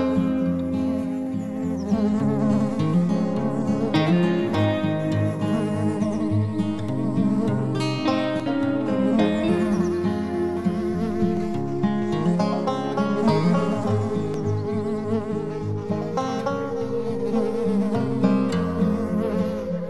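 insect, bees buzzing

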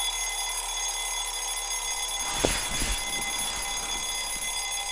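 household object, alarm clock ringing

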